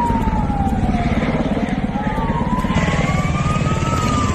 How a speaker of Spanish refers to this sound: Es el sonido de los helicópteros esta mañana en Tarifa, en la provincia de Cádiz